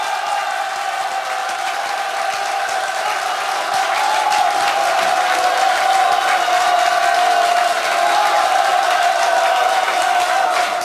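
A large audience applauds and cheers steadily for about eleven seconds, answering a call for their most excited applause before the greatest secret of success is revealed; a dense continuous wash of clapping with sustained shouting voices layered on top, loud throughout without pause.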